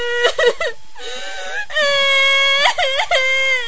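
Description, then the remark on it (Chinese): A person wails and cries in drawn-out, rising and falling moans, with a few short choked sobs between longer sustained high-pitched cries, loud and without any speech. “嘿，怎么又哭上了？别哭，朕恕你无罪，好好说。”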